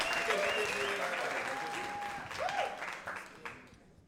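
Steady audience applause as a speaker makes her way to the stage, a dense wash of clapping with a few whistles and cheers rising over it before it begins to fade toward the end.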